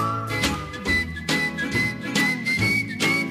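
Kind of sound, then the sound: person whistling a tune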